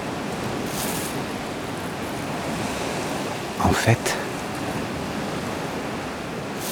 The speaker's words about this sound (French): le ressac des vagues varie selon l'exposition des récifs, la vitesse du vent. Je suis tout proche du remous des vagues.